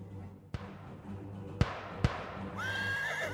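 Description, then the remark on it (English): Three sharp, loud cracks of high-powered rifle fire ring out over a low rumble in a canyon, then a horse lets out a long, shrill whinny that wavers and trails off near the end as the horses go down. “Our horses went down, and the 6 of us were trapped on the canyon floor.”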